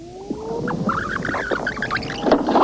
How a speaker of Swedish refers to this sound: Jag har ju min kassett här. Kom du ihåg första gången jag ringde till dig? Jag ska spola tillbaka här så ska du få höra.